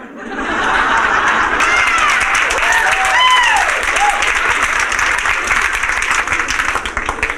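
Sustained audience applause at steady loudness for several seconds, dense and crackling, with some cheering voices and scattered laughter mixed in.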